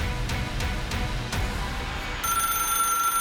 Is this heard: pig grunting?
no